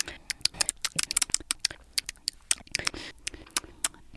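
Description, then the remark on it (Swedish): Wet, smacking lip and mouth noises from two people eating, a sound clip played from a phone: a rapid irregular series of sharp clicks and squelches with no talking. “Det här är min värsta fasa, men du och jag är smaskare.”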